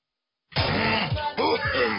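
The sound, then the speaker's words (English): After a brief silence, someone coughs hard and throatily, a rough, continuous hacking that runs for over a second with a short break partway through. “Oga, Haba, no cough for our face now, eh? Cough into your bent elbow.”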